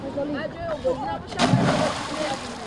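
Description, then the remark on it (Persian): Water splashes and sloshes as schoolchildren and teenagers swim in a river in Tajikistan, at a spot with no warning signs, with a bigger splash burst midway, while young voices call out in the background throughout. “حالا اکثر مکتبچه ها یا جوانان نورسان در دریاها آبوزی میکنند.”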